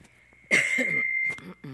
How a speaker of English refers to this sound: Can you tuck me off for a moment? Let me cough.